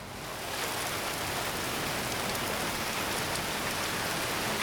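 Steady rainfall fades in within the first moment, then holds as a dense, even hiss with fine patter of drops hitting a surface, constant, with no voices.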